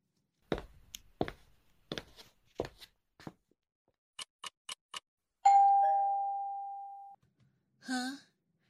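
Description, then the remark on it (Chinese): Footsteps and a few quick taps lead into a single clear doorbell tone that rings out and slowly fades, followed by a brief murmur-like sound at the end. “谁按的门铃啊，宝贝？”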